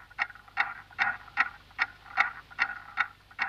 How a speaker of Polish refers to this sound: Może wraz z pierwszym krzykiem, gdy pierwszy oddech odnajduje swoją sekundę, jedną z miliardów sekund wystukiwanych przez zegar Newtona.